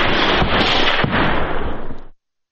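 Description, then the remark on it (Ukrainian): Dense, continuous barrage of loud blasts and rapid bangs from shelling of Ukrainian positions, packed together for about two seconds before cutting off abruptly into silence. No voices are heard. “Обстріли українських позицій тривають по кілька годин кожного дня.”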